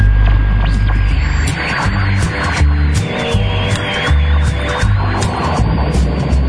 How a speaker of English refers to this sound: scientists recently discovered radio waves from a distant corner of the galaxy. Let's listen in.